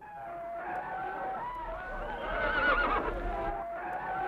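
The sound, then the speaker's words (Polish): A horse whinnies loudly and continuously over a rumbling, chaotic battle background, its shrill wavering cries rising and falling across several seconds, prominent. “syn Jan konia wam podsyła”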